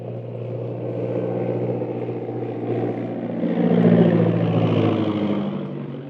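A propeller scout plane's engine drones steadily with a low, buzzing hum, swelling louder midway as it passes, then easing slightly, as it circles in to land on a castle's parade ground. No voices.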